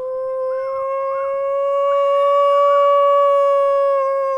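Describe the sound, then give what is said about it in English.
A long, sustained howl rises and holds steady, with a second wavering voice weaving above it, people in Missoula, Montana imitating wolves at night, loud, with no talking. “Now, in the beginning of season one, I was howling with the wolves of the human Missoula variety.”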